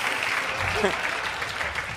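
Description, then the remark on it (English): A crowd applauds steadily, a dense wash of many hands clapping at once, loud and sustained for the full two seconds, with a faint voice briefly rising through the middle. “Let's just hear it for ourselves. Where's the clapping lady?”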